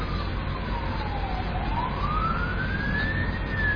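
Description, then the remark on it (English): A fire truck siren wails past during a morning service, its pitch sliding slowly down and then rising again over a steady rumble of traffic noise, with no one talking. “It's like we got a emergency vehicle going by. Fire truck, it looks like.”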